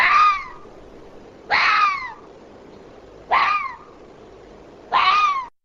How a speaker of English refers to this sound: Well, that was a fox barking, a noise which may be familiar to people in countries where urban foxes are an everyday reality, but for Czechs this is still the sound of the wilderness.